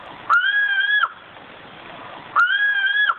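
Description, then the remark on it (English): Two long, mournful whistled notes from a Sumatran ground cuckoo, each held steady for under a second with a slight rise and fall at the ends, separated by a pause over soft background hiss. “let's listen to the Sumatran ground cuckoo one last time.”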